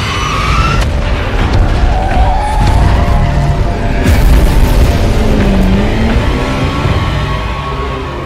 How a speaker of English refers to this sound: And the bombs did fall. With Winston's driver skidding around craters and just dodging the crashing hiss and heat flash of German incendiary Flammenbomben, as they erupted just yards ahead.